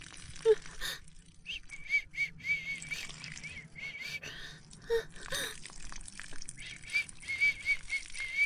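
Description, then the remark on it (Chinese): Soft, thin whistling comes in short, repeated high-pitched bursts with gaps between them, mixed with breathy gasps and faint rustling; the whistling is done to prompt urination. No one speaks. “吹口哨给自己冲尿”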